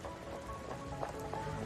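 rain falling

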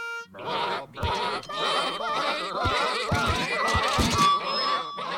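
sheep bleating

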